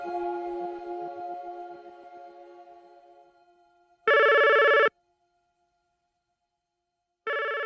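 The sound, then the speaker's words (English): The phone of 73-year-old Eugene Garner rings unanswered on May 21st, 2004, as his sister tries to reach him: two loud electronic rings with a long pause between them, following a fading musical tone that decays into near silence. “Throughout the day on May 21st, 2004, 73-year-old Eugene Garner isn't picking up his phone.”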